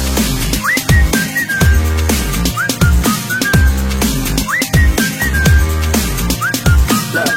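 A bright whistled melody with quick upward-sliding notes repeats several times over a loud, thumping beat and deep bass, sitting clearly up front in the mix.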